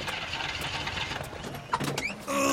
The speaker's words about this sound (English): Are you having trouble getting your car started?